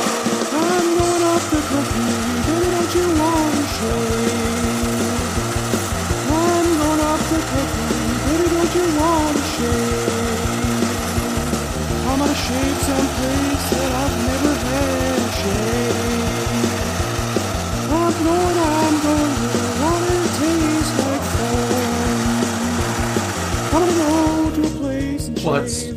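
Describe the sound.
A hot air dryer runs steadily, a loud, continuous whooshing roar with a humming motor tone that holds unchanged for the whole stretch, while voices murmur faintly beneath it.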